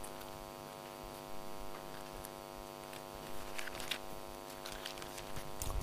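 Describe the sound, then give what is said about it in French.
Scattered soft papery rustles and flutters as many people turn pages of their Bibles at once, to the Book of Joshua, chapter 24, faint and irregular, over a steady electrical hum; no one speaks. “Si vous voulez bien tourner quelques pages de votre Bible, faire un peu le ventilateur, nous allons dans le livre de Josué, au chapitre 24.”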